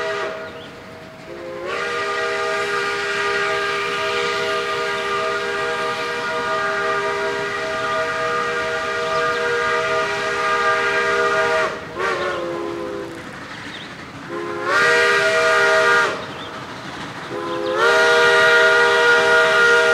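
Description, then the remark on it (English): A steam locomotive sounds its whistle loudly, one long sustained blast followed by several shorter ones, over the steady hissing and rumbling of the running engine. Smoke blasts from the stack as it takes a final long curve to the old logging camp at Whitaker Station. “The smoke is blasting out of the stack, and there's a light rain of cinders.”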